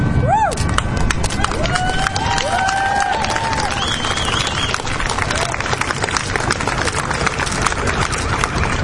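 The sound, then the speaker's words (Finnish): A large audience at an event for Finnish young people bursts into sustained, dense applause as the host takes the microphone away from his mouth, with scattered cheers and a few whistles rising above the clapping, staying loud and steady throughout. “Tämä on sillä lailla mahtava yleisö, että spontaanit aplodit tulee pelkästään ottamalla mikki pois suun edestä.”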